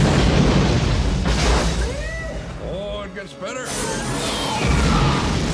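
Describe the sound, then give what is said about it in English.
Loud sci-fi gun blasts from the Noisy Cricket gun in a trailer for the film Men in Black, with booming explosions, sweeping warbling tones rising and falling between them, and a second heavy burst near the end. A voice briefly speaks over the effects. “Noisy cricket.”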